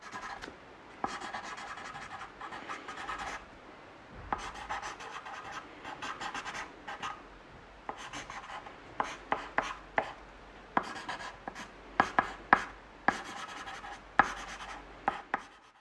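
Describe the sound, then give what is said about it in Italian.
Chalk scratching across a blackboard in long gritty strokes, then quicker strokes punctuated by sharp taps toward the end; fairly quiet, with no voices. “È il suono del gessetto!”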